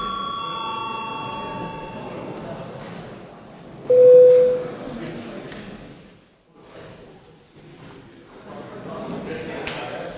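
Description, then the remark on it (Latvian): A registration bell in the Latvian Saeima (parliament) sounds once as a short, loud, steady mid-pitched electronic tone, called for a check of deputies' attendance by registration. It rises above a constant low murmur of voices and shuffling, with fainter sustained tones earlier on. “Lūdzu zvanu.”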